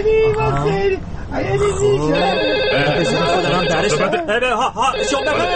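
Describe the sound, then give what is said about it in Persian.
A telephone rings steadily on an outgoing call dialed from a mobile phone to an office number, its repeated electronic tone loud, layered over overlapping voices and busy background sound. “بذار من با این موبایلم شماره دفتر رو بگیرم.”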